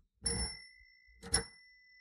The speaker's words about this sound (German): Das klang ja verhalten. Unsere Fahrradklingel klemmt. Verdammt. Muss ich immer wieder ölen oder was?